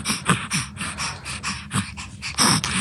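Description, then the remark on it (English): A baby boy's rapid, labored breathing as he struggles to breathe while his mum tries to distract him, with quick wheezy gasps and pants repeating in an irregular rhythm, fairly loud with no talking. “A mum trying to distract her baby as he struggles with his breathing.”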